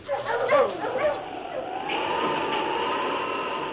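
King, a great dog, gives a few quick, yelping barks, then settles into a drawn-out, high whimper that carries steadily over a faint background hum until the end, while picking up a scent found on bandanas after light snow.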